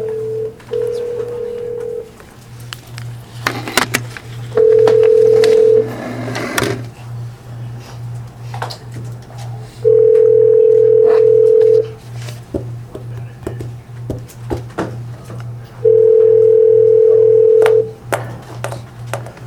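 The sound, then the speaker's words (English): A phone call rings out with four steady ringback tones, each about two seconds long with a few seconds of gap between, over a low pulsing hum and faint clicks, ringing through to voicemail. No one speaks. “What type of voicemail are you?”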